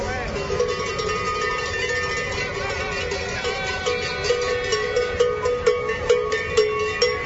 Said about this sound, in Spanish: Está el sonido de la protesta, unos 300 tractores y unas cuantas reses por la ciudad de las murallas, como no, los ganaderos con esas reivindicaciones.